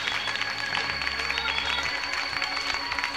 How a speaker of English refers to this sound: Clap your hands to Jesus and give him praise.